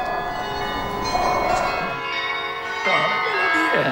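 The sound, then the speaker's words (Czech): Carillon bells ring out a slow Marian hymn melody, their tones overlapping and lingering as each new note strikes, steady and fairly loud throughout. “Zvonku, tenkrát, před lety, byla jiná. Byla to mariánská píseň, tisíckrát pozdravujeme tebe.”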